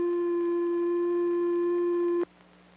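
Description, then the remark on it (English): A steady synthesizer triangle-wave tone holds one mellow, slightly buzzy pitch at even loudness for a little over two seconds, then stops abruptly into near silence. “Another oscillator produces a triangular wave.”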